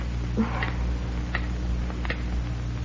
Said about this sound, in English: Well, the clock stopped.